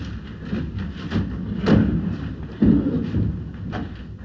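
A chair is shifted with a low scraping rumble, then set down with two solid thuds, one a little under a second after the other. No one speaks.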